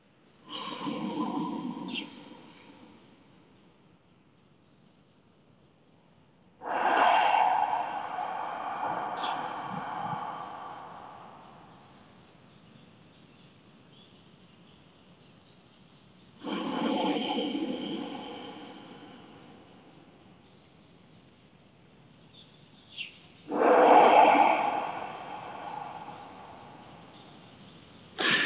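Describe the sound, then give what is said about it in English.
Slow, deep breathing exercise with no talking: four long, airy breaths, each a loud rushing swell lasting a few seconds, separated by quieter pauses in a steady unhurried rhythm. “And then, as I say, begin this breathing.”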